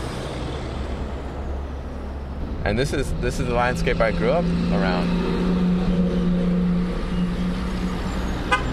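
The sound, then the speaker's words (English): Steady road traffic in Commerce, with heavy trucks rolling past (about 35,000 trucks pass through each day); a low engine drone swells midway while a man speaks over the continuous noise. “35,000 trucks pass through Commerce each day. And that number is expected to triple over the next 20 years, according to transportation officials.”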